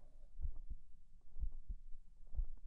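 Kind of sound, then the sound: human body sound, heartbeat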